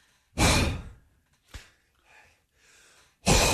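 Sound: imitated heavy panting breaths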